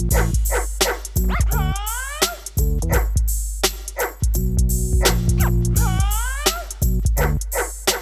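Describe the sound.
Repeated sharp dog-like barks and rising yelps over a steady, thumping musical beat with sustained bass tones, loud and close, with no talking.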